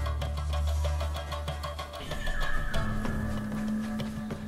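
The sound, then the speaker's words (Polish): A horse whinnies loudly, its shrill, wavering neigh rising and falling over a steady rumbling background, with no voices present. “Może mogę konia wziąć?”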